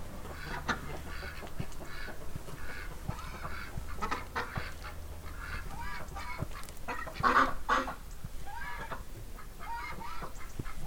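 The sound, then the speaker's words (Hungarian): Many ducks in a village farmyard at 7:30 in the morning call over each other in a dense, continuous chorus of honks and quacks, with one louder burst of calls partway through and a low hum underneath. “Most bejöttem egy udvarra, ahol kacsák vannak.”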